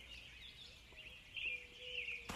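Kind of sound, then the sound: bird, small birds chirping outdoors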